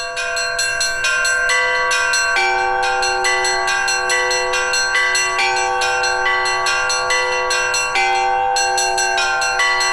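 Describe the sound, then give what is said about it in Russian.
Church bells ring out from a half-ruined bell tower in a rapid, continuous peal, overlapping strikes with sustained ringing tones, loud and steady throughout with no voices. “Кто бы мог подумать, что в полуразрушенной колокольне, которую не сокрушили ни время атеизма, ни война, снова будут звучать колокола, призывая прихожан на литургию.”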